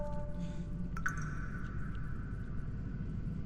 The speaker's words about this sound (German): Oh, hört ihr das? Dieses Rauschen, das gruselige Heulen und das Wassertropfen? Dieser Atmo, ey.